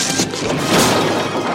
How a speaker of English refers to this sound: The tall black guy knocks over the brick wall.